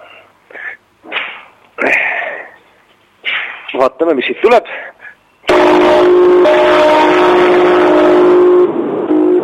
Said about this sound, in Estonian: Ja ma soovin, et see kella hääl kostaks liiklusmürast üle ja puudelatvadest üle, jõuaks inimesteni ja et see kutse jõuaks südametesse tulge issanda kotta. Ja nüüd ma natukene katsun valjemat häält tekitada selle kellaga.